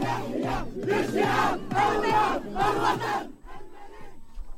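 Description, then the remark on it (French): Moroccan football supporters at Place Jean Jaurès sing the national anthem of Morocco, celebrating qualification for the Africa Cup of Nations final, in loud, rhythmic unison, voices swelling in repeated phrases before the chant drops to a quieter, scattered murmur near the end. “En attendant la grande finale prévue dimanche face au Sénégal, les supporters ont célébré cette qualification à la place Jean Jaurès en chantant l'hymne national du Maroc.”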